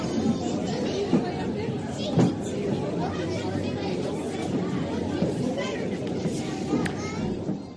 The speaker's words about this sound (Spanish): Es un zumbido constante de voces, gritos, susurros que hacen complicado el día a día del profesor.